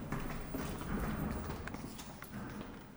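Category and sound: impact, footsteps walking up stairs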